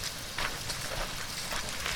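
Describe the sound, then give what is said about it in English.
Steady rain falling, a dense hiss of drops with occasional brighter patters on a surface, even in loudness, with no voices. “I'm delighted every day it rains.”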